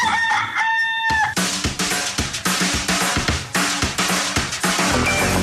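A single rooster crow rings out clearly for about a second, then gives way abruptly to loud, dense music that fills the rest of the moment.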